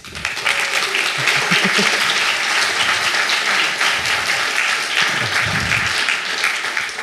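An audience breaks into sustained applause, a dense, steady wash of many hands clapping at a fairly constant loudness for several seconds, with a few faint murmurs underneath.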